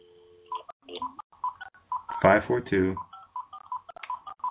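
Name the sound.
telephone keypad dialing tones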